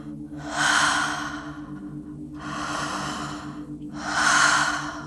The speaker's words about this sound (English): Open mouth breathing, drinking the light, your cells drinking in bioilluminescence, glittering light, connecting with your breath, opening spaces within the body,